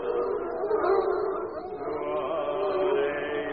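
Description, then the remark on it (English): Several hound dogs howl together in a sustained chorus, their wavering, overlapping tones running on without a break at a steady, moderate loudness. “And as he sings, every hound dog along the valley joins with him.”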